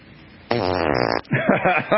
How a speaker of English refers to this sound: Somebody who had, what do they call that? Fart attack. You had a fart attack.